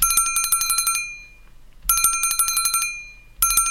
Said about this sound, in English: Super bonus. Pick up super bonus. That sounds like a school bell.